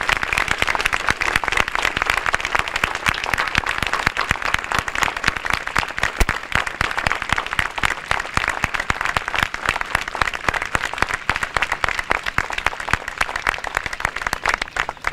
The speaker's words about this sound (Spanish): Hoy nosotros tenemos la suerte de contar aquí en este acto con tres personas que son personas que realmente hicieron honor a la frase de "o juremos con gloria morir", que son los excombatientes de Malvinas, para quienes pido un gran aplauso.